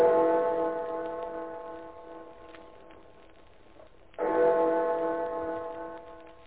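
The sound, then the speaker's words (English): A clock bell strikes twice, marking 6 o'clock, roughly four seconds apart, each deep ringing chime swelling loud and then slowly fading with a rich, humming resonance. No voices are heard. “It's 6 o'clock.”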